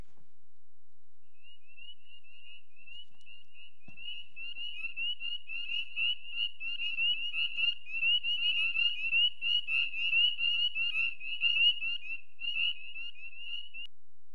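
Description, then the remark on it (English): A spring chorus of frogs croaking in a steady, high-pitched trill of rapid pulses, swelling slightly in the middle and running nearly unbroken for over ten seconds with no voices. “Then take the time to listen to the first frogs, watch the sunset and the stars come out.”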